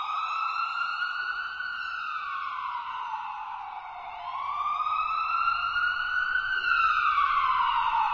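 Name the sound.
ambulance siren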